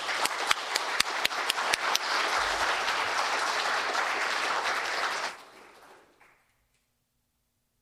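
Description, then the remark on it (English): A church audience breaks into sustained applause to thank its teachers and staff, a dense wash of many hands clapping with a few sharp individual claps at the start, holding steady for about five seconds before fading quickly into silence. “Please join me in thanking them with a round of applause.”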